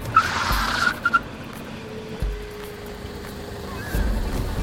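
A car's tires squeal sharply with a rush of noise, then the vehicle settles into a low steady rumble with a faint sustained hum, and no one speaks.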